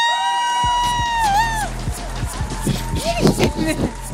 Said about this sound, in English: Now, she has a whole other identity, so you're going to have to applaud just as much for the other identity,